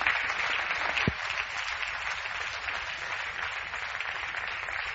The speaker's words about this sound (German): Super, vielen Dank. Gib dir mal einen kräftigen Applaus. Dankeschön.